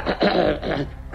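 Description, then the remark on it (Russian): A man with an itchy throat coughs and clears his throat in a few rough, raspy bursts, ending with one more short hack. “Черт, кашель.”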